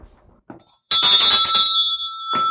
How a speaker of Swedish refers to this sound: Katedern, den är från Tomteboda, och du ser ringklockan som står på katedern där också. Det var den man ringde i. Det var rastklockan. Kan vi höra? Ja, den låter ju väldigt starkt.